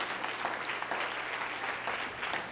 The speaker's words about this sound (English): And yeah, go ahead. Y'all just, you know, keep clapping for us if you want.